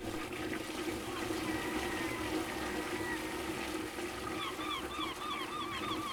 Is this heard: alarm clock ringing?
no